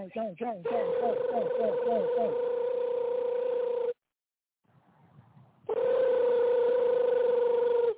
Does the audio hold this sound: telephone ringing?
yes